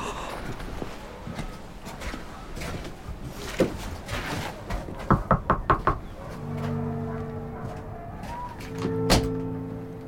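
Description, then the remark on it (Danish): A quick series of about five firm, evenly spaced knocks on a house door, followed by a low sustained tone and some background shuffling. “Ja, vi går op og banker på.”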